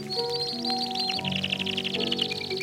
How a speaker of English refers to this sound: This is one of those many recordings of some kind of canary aviary accompanied by some sentimental piano music.